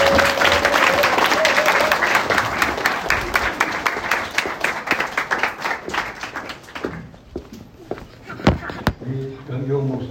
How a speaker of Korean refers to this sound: 우리 나오실 때 우리 목사님 좋아하시는 우리 성경과 감사를 담아서 우리 박수로 드리겠습니다.